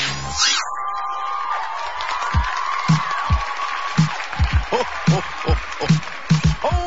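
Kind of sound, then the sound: crowd, crowd cheering and applause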